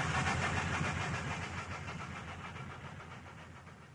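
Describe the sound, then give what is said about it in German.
A train slowly pulls out of Stuttgart main station, its steady low engine rumble and broad mechanical hiss filling the space, then gradually easing off as it moves out. No voices. “Langsam fährt der Zug aus dem Hauptbahnhof Stuttgart.”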